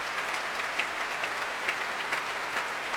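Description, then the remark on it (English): Steady applause from a crowd for young musicians after a performance, joined by singer Susan Graham on the platform, a dense wash of overlapping hand claps that holds at an even, moderate level for the whole stretch, with no voices heard. “Susan Graham coming back onto the platform now, pressing her hands together and applauding the young players,”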